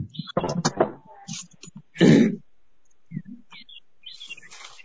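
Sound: birds tweeting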